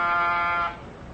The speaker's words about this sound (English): No answer to the door buzzer.